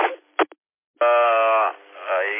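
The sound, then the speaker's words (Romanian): A narrow, tinny amateur radio transmission carrying a voice from a mobile station during a radio test, cutting out briefly, then returning strong before its level sags and swells again in waves. The signal is reported at about 5-3. “Y7 Hotel Eco Y7 Hotel India Kilo, un 5-3 aproximativ, că vine în valurele, așa?”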